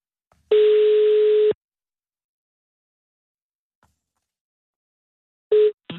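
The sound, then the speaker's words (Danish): A telephone ringback tone on a call to Viborg: one steady, buzzy ring lasting about a second, a long silent pause, then the start of a second ring cutting in at the end. Clear, no talking. “så ringer vi til Viborg.”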